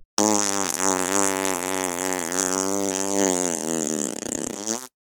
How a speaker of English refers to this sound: Yep, farts.